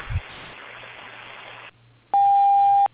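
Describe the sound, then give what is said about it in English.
A single loud, steady electronic beep from the answering machine of Strangle General Painting rings out for nearly a second, following a stretch of faint line hiss and brief quiet. “Leave a message. Wait for the beep.”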